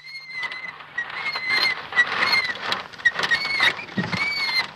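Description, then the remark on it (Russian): A small child's unoiled tricycle squeaks and creaks over and over, heard from afar in Snopovo during Indian summer, in a rough, uneven rhythm, high thin whines repeating steadily with soft rattling and patter underneath, with no voices. “Далеко слышен жалобный скрип трехколесного велосипедика маленького”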